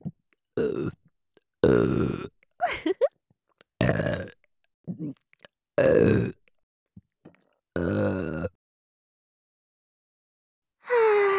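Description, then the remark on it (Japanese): A woman lets out a string of loud, full-force burps, about eight in quick succession with short pauses between them, some long and croaky, then a brief silence before one more begins. “私はリスナーの皆さんがたくさんゲップを聞いてオナニーできるように最初から全力でゲップするだけです。”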